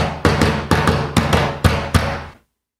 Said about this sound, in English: Name this door knock.